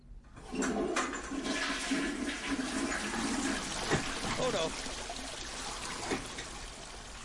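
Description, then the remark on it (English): A toilet flushes and overflows, a loud, steady rush of gushing water that keeps pouring and gurgling for several seconds without easing off as the water spills out of the toilet. “What should I do if the water in the toilet isn't in the toilet anymore?”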